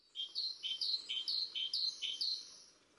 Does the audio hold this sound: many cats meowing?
no